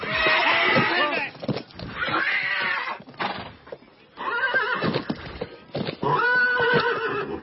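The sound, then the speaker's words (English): A horse neighs and whinnies loudly in several shrill, quavering bursts, with hooves clip-clopping in the short pauses between calls. “A Greenbroke horse. He's faster.”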